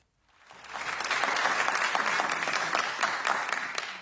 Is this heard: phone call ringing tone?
no